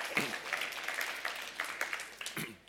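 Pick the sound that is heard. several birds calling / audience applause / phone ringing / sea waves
audience applause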